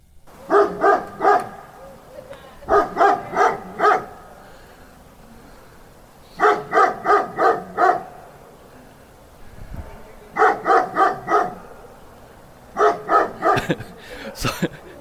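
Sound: dog barking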